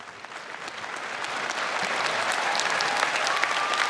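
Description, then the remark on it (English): An audience applauds steadily, a dense wash of clapping that swells slightly and holds at full strength for the whole stretch, with no voices standing out. “I love that they applauded for this.”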